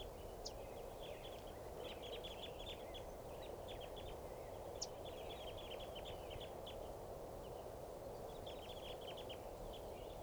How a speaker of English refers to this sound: There's a fairly large flock of crossbills in the tree here. That's the tree that's in the middle of the corral at Barford Park. This is where I'm camped now. And this is a sample of the flock's pre-flight calls. They're perched kind of low.